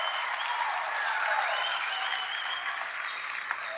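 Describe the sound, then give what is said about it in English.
A steady wash of crowd applause and cheering at a basketball game after Nitzel's tap-in field goal fills the whole stretch, dense and sustained, with a faint whistle-like tone drifting through the middle and no clear talking. “And a big round of applause comes up.”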